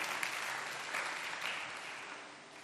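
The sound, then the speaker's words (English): An audience claps their hands for Jesus during a sermon, a dense, steady wash of applause that holds fairly even throughout, with a few slightly louder swells along the way. “Can you clap your hands for Jesus, somebody?”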